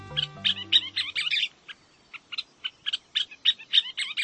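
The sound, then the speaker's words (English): Scissor-tailed flycatcher calls: rapid bursts of sharp, chattering chirps repeated in an uneven series, clear, with a faint low tone fading out at the start. “That's one of the country's most unforgettable birds, a scissor-tailed flycatcher.”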